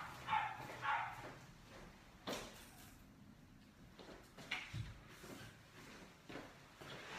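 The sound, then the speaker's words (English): A dog gives two or three quick barks at the start, then a few scattered thuds and rustles follow, with no talking. “I think Fido had some issues with his parents.”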